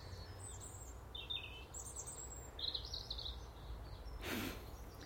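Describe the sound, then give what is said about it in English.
A tiny bird with its tail sticking straight up sings bright, high trilling phrases in several short bursts in the morning, over a steady low outdoor rumble, with a brief rushing noise near the end. “Tiny wee thing. I think if you took the feathers off it, I don't think there'd be much inside. But what a song.”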